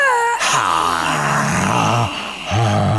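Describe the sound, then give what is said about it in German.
A person imitates a lion's roar to relax at the end of a face yoga exercise: a long, drawn-out, throaty vocal groan that wavers in pitch, followed after a short pause by a second rough roar. “Halte das 10 Sekunden und entspanne, indem du das Bullen eines Löwen imitierst.”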